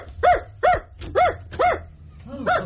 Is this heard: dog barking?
yes